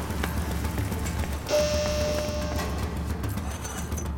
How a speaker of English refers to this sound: Okay, the rain is a-pouring.